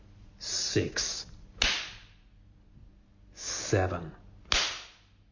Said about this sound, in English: Or you want more? You want more spanks, do you? Or you need more?